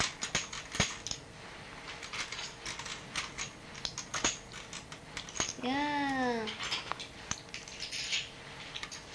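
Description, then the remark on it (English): Coins clink and tap in quick, irregular bursts as five coins are handled and counted on a surface, with a short voiced sound partway through. “Five what? Five coins. Is this a coin?”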